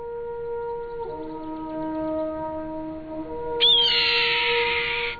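A single harsh, rasping scream of a red-tailed hawk soaring high above, bursting in loud and holding for over a second against a background of steady whistling and humming tones.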